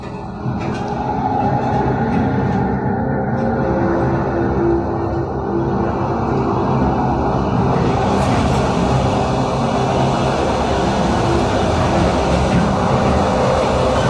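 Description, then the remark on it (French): A train on the 2000 km, 36-hour route to Vorkuta in the Russian Far North rolls steadily along the rails, a loud, continuous low rumble with a faint metallic hiss above it, unbroken for the whole stretch and with no voices. “Il y a 2 avions par semaine pour Vorkuta et le train met 36 heures pour faire les 2000 km, et ça fait comme un cheveu, pas plus épais qu'un cheveu, sur l'immensitude glacée, l'immensitude du Grand Nord russe et de la Sibérie.”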